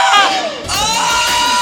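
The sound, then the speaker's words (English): A loud, shrill vocal screech from a singer, with two sharp high-pitched cries in quick succession, the second sustained and rising over a faint noisy background. “according to Lisa Marie Presley, when they had sex, he would screech.”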